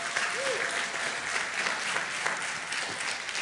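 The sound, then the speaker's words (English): Steady, dense applause from a church audience honoring standing veterans, a broad continuous wash of many hands clapping at even loudness throughout, with a faint brief whistle-like tone early on. “And couple of devil dogs there, and on if you're watching online, please stand up in your living room, and we're clapping for you too.”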